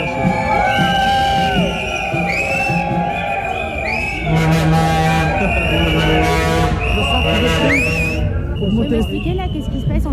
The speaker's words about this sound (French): Et là, il y a autant de sifflets parce qu'en fait, on est devant l'entrée